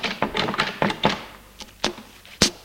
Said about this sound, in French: prend sa valise et ouvre la porte.